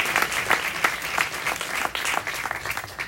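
An audience applauds actor Leonardo Maltese, who plays Giovanni, with many hands clapping in a dense, continuous patter at an even, moderately loud level throughout, with no voices standing out.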